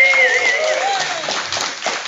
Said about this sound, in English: You applaud. I want to hear you.